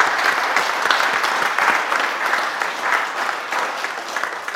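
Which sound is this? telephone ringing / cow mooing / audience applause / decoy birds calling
audience applause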